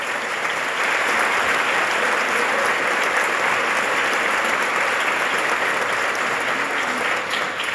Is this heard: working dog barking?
no